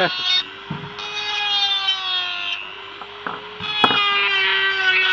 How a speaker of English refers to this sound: Oops. Bad bearing.